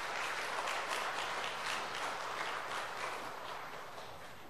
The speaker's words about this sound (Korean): 총 32명입니다. 12주간에 걸쳐서 교육훈련을 예수하신 분들입니다. 그동안 수고하신 분들께 격려의 박수 부탁드리겠습니다.